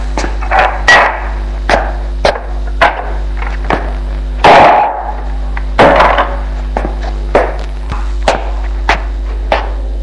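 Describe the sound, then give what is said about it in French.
A man is struck on the skull with a hammer and falls to the ground: a string of sharp hammer-like blows at an uneven rhythm, with one heavier, fuller thud near the middle like a body hitting the floor, over a steady low hum. “tout d'un coup, lui donne un coup sur le crâne. Et il tombe à terre.”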